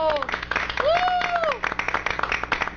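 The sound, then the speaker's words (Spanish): A group of visitors from the Superintendencia de Bancos claps steadily in dense, crackling applause for about three seconds in the Marta Bolaños de Prado glass studio of TGW radio. Voices cheer and call out over it, including one long rising-and-falling whoop. “porque se vinieron todos nuestros amigos de Superintendencia de Bancos, a quienes les vamos a solicitar que aplaudamos todos juntos para alegrarnos más.”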